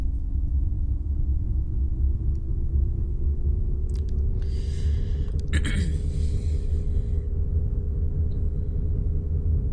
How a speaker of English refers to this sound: Fuel lines repaired. Good. Now firing primary engine.